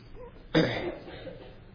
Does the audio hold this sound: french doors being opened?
no